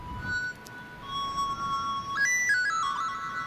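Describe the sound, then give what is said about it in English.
A person blows into a phone running an ocarina app, producing airy pan-flute-like tones that hold a steady note, then step up to higher pitches and drift back down, with a faint echo and no talking. “It really does sound like a pan flute or something, you know?”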